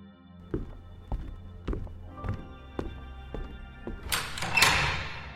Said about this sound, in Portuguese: As portas se abrem.